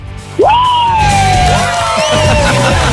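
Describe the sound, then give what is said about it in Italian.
A woman suddenly lets out a loud, long yell with maximum energy that jumps up in pitch and then slowly sags, held for over two seconds over busy background music. “allora adesso noi ti mettiamo sto pezzo e tu ti carichi e cominci ad urlare col massimo dell'energia.”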